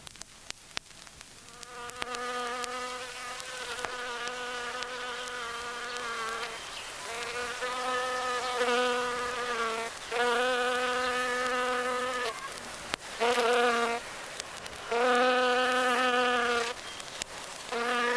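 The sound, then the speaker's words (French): A steady insect buzz like a bee, droning in long bursts that swell, pause briefly and resume several times, with a rich harmonic hum and no voices. “Après les éléphants qui parlaient baleines, voici les mantes religieuses qui parlent abeilles.”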